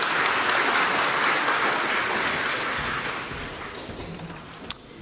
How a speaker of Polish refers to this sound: Wielkie brawa.